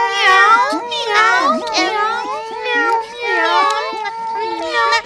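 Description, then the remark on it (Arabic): Several high, whiny kitten meows overlap in a steady stream, rising and falling in pitch with barely a pause for about five seconds. “تعالوا تعالوا يا قطة الصغار، هيا هيا تعالوا، لقد أعددت لكم طعاما لذيذا.”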